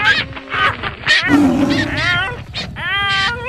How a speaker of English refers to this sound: This bird happened. I almost had that elk in my teeth when this stupid parrot came along and scared them all away.